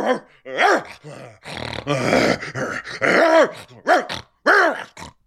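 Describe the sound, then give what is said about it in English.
A dog growls and barks in a quick series of loud, rough bursts with short pauses between them, and no one speaks over it. “He says, Andrew's dog made my dog bark.”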